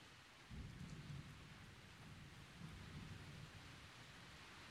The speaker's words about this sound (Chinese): 外面还在下雨，又打雷，我害怕嘛。